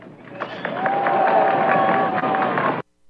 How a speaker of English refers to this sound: He actually got some applause there.